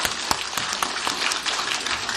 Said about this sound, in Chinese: 现在我们用再用热烈的掌声欢迎每一位朋友们。